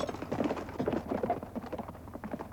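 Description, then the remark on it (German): Horse hooves gallop in a quick, steady rhythm of clattering beats, moderately loud, as a rider on horseback chases after another horse, with no voices over them. “Ich sprang auf das Pferd, das mir am nächsten stand, und folgte ihm.”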